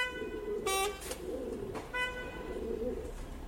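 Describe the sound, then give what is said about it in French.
Pigeons outside a window coo in soft, low, rolling murmurs that repeat steadily throughout, with a couple of brief brighter tonal bursts breaking in. No one speaks. “Par la fenêtre, j'ai vu des pigeons, des pingouins et des chauffeurs rouges.”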